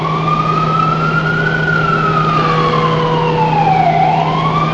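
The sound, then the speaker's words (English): An ambulance siren wails in a slow rise and fall, loud, over a steady low engine rumble, with no one speaking, the ambulance stuck in standstill traffic on a four-lane road. “I don't know how an ambulance is supposed to get from point A to point B.”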